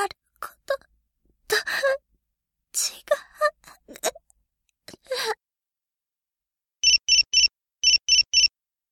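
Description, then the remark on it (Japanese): A mobile phone's new-message alert chimes as a new email arrives: two quick bursts of three bright electronic beeps, clear, following a stretch of strained gasps, sighs and moans. “携帯に新しい未来メールが来た。”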